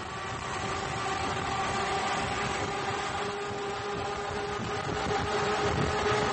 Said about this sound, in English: I have a sound clip of the Liberty V-12, a 27-liter V-12 World War I airplane engine, and that's used in these boats. Let's listen to that.